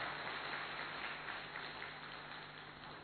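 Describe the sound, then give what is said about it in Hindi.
Audience clapping fills the whole stretch as a dense, steady patter of many hands, fairly soft and even throughout, with no voices coming through. “तालियां तो बजाओ भाई जरा।”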